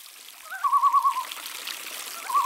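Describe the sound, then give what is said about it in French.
A river stream flows with a steady, airy rush, and a brief warbling trill rises above it near the start and again at the very end. “Et comme il était très malin, il eut l'idée d'aller à la rivière chercher des petits cailloux blancs.”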